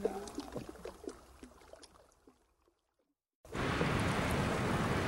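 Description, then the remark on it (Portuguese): Water splashing in the waves made by a moving boat: scattered splashes and drips fade to a brief hush, then a loud, steady rush of churning water fills the last second and a half. “Pássaros sobrevoam o barco e apanham os peixinhos que brincam nas ondas provocadas pelo barco e depois desaparecem no horizonte,”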